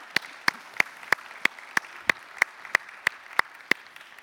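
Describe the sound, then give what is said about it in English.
A church audience applauds two summer interns coming up on stage, in a steady, even rhythm: about a dozen sharp, crisp claps spaced roughly a third of a second apart, moderately loud, with no talking. “We can give them a round of applause as they come up.”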